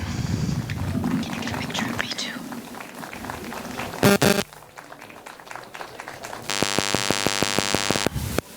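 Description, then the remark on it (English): Warm audience applause welcoming performers introduced onstage: a dense, steady patter of many hands clapping for several seconds, followed by a brief noisy burst and then a sustained, buzzy electronic tone. “A warm applause.”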